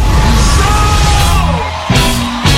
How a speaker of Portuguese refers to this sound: Palmas pro GG. Bom trabalho.